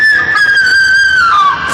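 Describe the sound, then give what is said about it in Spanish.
A young blonde woman's terrified, anguished scream as she writhes on the ground, one long, loud, piercing cry held high and steady before sliding slightly downward at the end, with no talking around it. “¿Escuchaste? ¡Es un grito espantoso! Es la señorita Nadia.”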